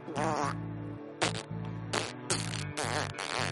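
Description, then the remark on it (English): A voice imitates a rat farting with a quick run of about five short, squeaky, buzzing bursts, fairly loud, with brief gaps between them. “And I'm gonna make the sound of a rat farting.”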